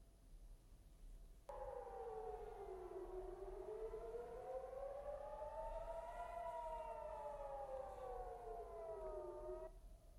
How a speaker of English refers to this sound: Now, sirens have sounded in several areas of the occupied Palestinian territories following a fresh missile strike from Yemen.